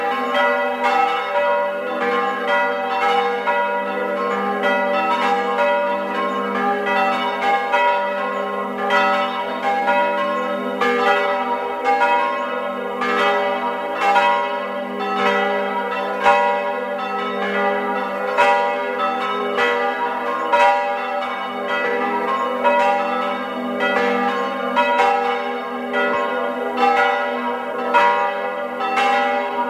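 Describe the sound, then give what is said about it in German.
Several church bells of the Marienkirche in Fendels in the Tyrolean Oberland ring together at 12 noon in a continuous, dense peal, their overlapping strikes forming a steady rhythmic clangor that stays loud throughout, with no voices. “Sie hören die Glocken der Marienkirche in Fendels im Tiroler Oberland.”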